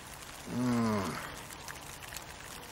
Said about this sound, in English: Starts raining too.